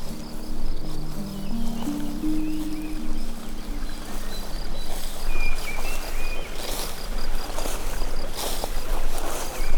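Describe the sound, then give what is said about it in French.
A small stream in the Creuse, France, flows and babbles steadily, a continuous rushing wash of water with faint insect chirps above and a low droning hum in the first few seconds. “Le ruisseau, les arbres, je vous invite à vous asseoir.”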